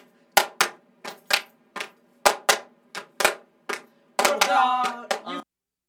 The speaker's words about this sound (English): And then we'll da, put a clapping layer over it.